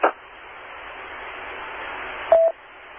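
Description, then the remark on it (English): Two brief beeps of phone dialing tones as someone calls a cell phone, one at the very start and one near the end, separated by a steady bed of radio-style hiss. No one speaks. “Well, I'll call him on his cell phone.”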